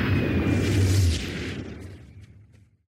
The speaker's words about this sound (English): But one terrible night, a meteorite crashes on the zoo. Is that a meteorite?